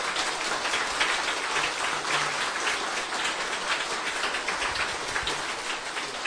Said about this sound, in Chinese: 我建议大家是不是用最热烈的掌声对净空老和尚做一个最殊胜的崇敬跟祝福。